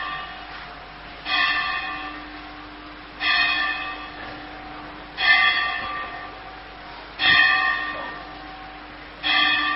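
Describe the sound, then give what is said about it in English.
A bell tolls five times at a steady pace, about two seconds apart, each ringing strike fading before the next. It sounds moderately loud, with no voices. “For whom does the bell...”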